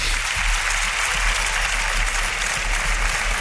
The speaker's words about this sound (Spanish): Así que, por favor, un aplauso a Cadena Dial, que son los mejores.